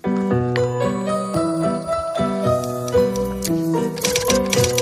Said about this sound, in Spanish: ¡Ay, la máquina! Es una máquina de escribir, ¿no? Bueno, estoy aquí yo, digo, a ver si es otra cosa. ¡No! Con tecleando, tiki-tiki-ti.